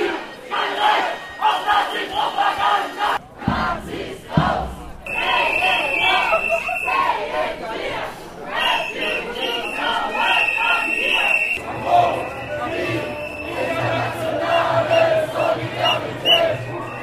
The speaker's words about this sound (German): Nach der langen Startkundgebung am Bahnhof zogen die Demonstrierenden lautstark durch Karlsruhe-Durlach.